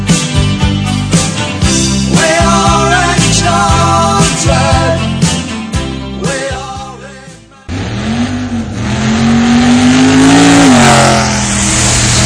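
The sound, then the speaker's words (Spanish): A loud car engine revs up and accelerates with a rising, roaring pitch that swells and then eases, following several seconds of upbeat music with a steady beat, in a Radio Voz promo for the motoring programme Vamos como Motos. “Si te gustan los coches o las motos, no te pierdas Vamos como Motos, el programa decano del motor en las ondas gallegas.”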